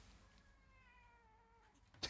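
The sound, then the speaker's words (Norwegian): A single drawn-out meow from a female cat, fairly quiet, its pitch sliding slowly downward over about two seconds, followed by a brief rustling bump. “Denne katten, hun går ikke an å løfte bort heller. Hør nå.”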